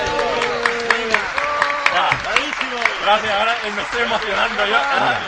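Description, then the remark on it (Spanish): A small crowd applauds, with sharp, irregular claps running steadily throughout while several voices talk and call out loudly over the clapping. “Un aplauso para él. Venga, va. Me aplaudo yo.”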